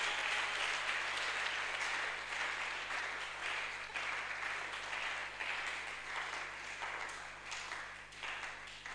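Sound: audience clapping and applauding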